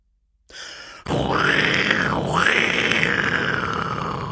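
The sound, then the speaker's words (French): A voice imitates a lion's roar in an animal-sound guessing game: a single long, loud, raspy growl lasting about three seconds, its tone dipping and rising, after a brief rustle and a moment of silence. “Le lion. Ah bah voilà.”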